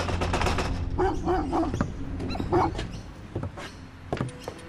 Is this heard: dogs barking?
yes